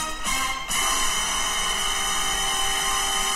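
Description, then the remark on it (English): A phone message ringtone plays loudly and steadily for a few seconds, a dense whooshing, droning tone with a brief shift near the start and no speech. “Message. I sent it to myself. Seemed like the time for that ringtone.”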